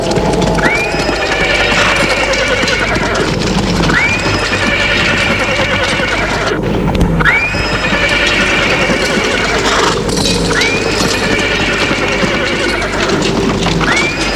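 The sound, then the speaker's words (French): A horse pulling a cart at full speed whinnies loudly again and again, roughly every few seconds, over a constant rumble of galloping hooves and the rattling cart. No one speaks. “L'après-midi, en arrivant au bourg, il voit arriver vers lui une charrette avec un cheval qui file à toute vitesse.”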